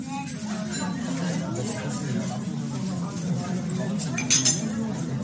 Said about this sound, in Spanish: Nada raro, ¿verdad? Suena a gente comiendo en un restaurante, los cubiertos, el murmullo. Bueno, pues es eso exactamente, un restaurante.